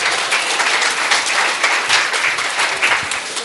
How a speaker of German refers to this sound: Ein Applaus für die, die richtig geraten haben.